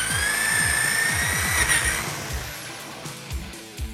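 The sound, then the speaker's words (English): A powerful Fix-O-Matic super drill whines at a steady high pitch while grinding hard through a stone wall, with rough rhythmic crunching underneath, then the whine drops away leaving scattered knocks and debris. “And now, stone. Hey, stop. You've gone straight through the wall.”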